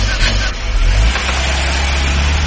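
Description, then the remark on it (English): A car engine hums steadily and smoothly, with a strong low rumble and broad road noise that stays even and fairly loud throughout, no voices present. “This is what driving with and out tune and your engine running smooth.”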